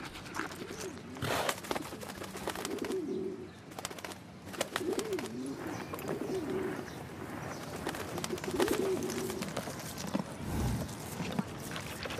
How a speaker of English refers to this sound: The constant cooing of these pigeons is a sure sign they're well fed. So there's always a full-throated chorus from this sleek, healthy gang.